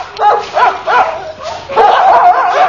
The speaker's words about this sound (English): Your dogs have got very loud voices, sir. Oh, yes, on a clear day, they carry for miles.